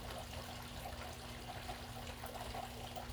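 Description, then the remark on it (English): Water trickles softly and continuously in a garden, a quiet, steady outdoor babble with a faint low hum underneath and no voices. “Today we're going to ground together out in my garden with nature, the birds, the water, and connect deeply to the self.”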